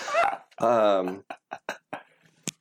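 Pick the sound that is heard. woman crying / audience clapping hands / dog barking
dog barking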